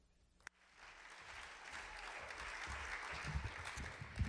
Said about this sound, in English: Let's keep the applause going